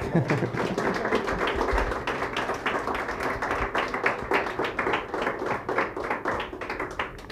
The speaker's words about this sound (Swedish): Fint. En applåd.